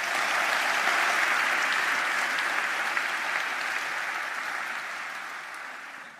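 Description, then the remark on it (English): Sustained audience applause, a dense wash of many hands clapping at a steady loudness for several seconds before gradually tapering off toward the end. No one speaks. “Let's first of all hear it for Chris and Dr.”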